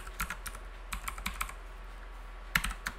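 Quick, irregular clicks of keys as an FTP password is typed on a computer keyboard, in a few short bursts separated by pauses, ending with a sharper, louder keystroke and a couple of final taps. No one speaks.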